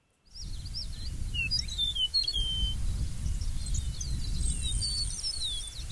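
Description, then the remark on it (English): An eastern meadowlark's song of clear, slurred whistles among other chirps and tweets, repeating steadily for several seconds over a constant low outdoor rumble like wind. “Well, how about let's give a listen to another bird now. This will be the eastern meadowlark.”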